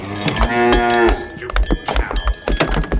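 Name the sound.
cow mooing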